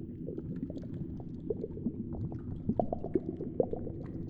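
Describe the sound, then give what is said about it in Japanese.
Muffled underwater bubbling churns steadily throughout, a dense low gurgle with small bubble pops rising out of it, soft, with no voices. “ほら、海の中でシャボン玉の中にいるような感じ。”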